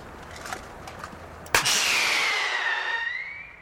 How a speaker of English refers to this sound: Screaming rockets shot off from a cap gun zigzag into the night air.